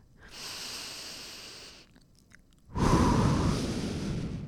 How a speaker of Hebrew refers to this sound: אתם יודעים מה עוזר לדייק מחשבה? לנשום עמוק. אז בואו ניקח נשימה עמוקה פנימה.